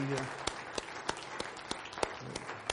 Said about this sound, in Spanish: Denle al Señor un aplauso.